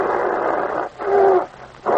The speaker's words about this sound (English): The air was full of the savage growls coming from the bear's throat.